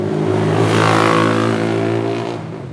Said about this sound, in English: Driving down Avenida Brasil, one of Rio's main roadways, traffic is heavy, and the view of Rio's picturesque beaches becomes a distant memory as our car heads north into one of Rio's many working-class neighborhoods.